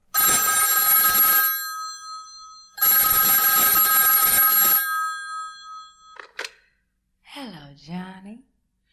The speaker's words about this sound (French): Ring, ring, ring, Telephone Baby.